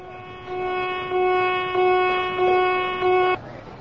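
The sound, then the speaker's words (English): A ship's fire alarm blares a loud, steady, mid-pitched horn tone that swells in five rhythmic pulses, then cuts off abruptly, leaving quiet background noise. “It means the alarm is over.”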